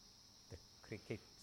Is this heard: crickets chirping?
yes